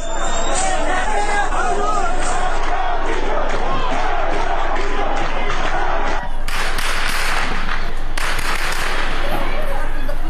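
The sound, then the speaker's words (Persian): Rapid, continuous sharp bangs of heavy gunfire crackle over a loud, agitated crowd, shots dense and overlapping, shouting voices mixed in, no pause in the firing: security agents firing at a large crowd of protesting citizens gathered in front of the governorate in Mahabad on Thursday. “از سوی دیگر تصاویر دریافتی از مهاباد در روز پنجشنبه نشان می‌دهد که تجمع شمار انبوهی از شهروندان معترض در مقابل فرمانداری این شهر با تیراندازی شدید و ممتد ماموران به سمت معترضان مواجه شد.”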